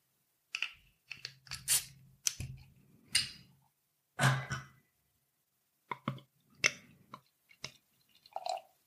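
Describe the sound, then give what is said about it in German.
A bottle of Brauhaus Gusswerk organic Austrian Märzen beer (5.6% alcohol) from Hof bei Salzburg being opened: a string of sharp clicks, crackles and short rasping bursts, with one louder hissing pop midway, and no voices. “Gut, dann mache ich die Flasche mal auf.”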